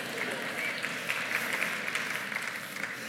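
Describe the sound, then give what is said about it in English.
An audience claps in agreement with a speaker's pet peeve about reply-all emails, a dense patter of many hands forming a continuous crackling wash of applause at moderate volume, with a few sharper individual claps standing out. “If you're not clapping, we're talking to you.”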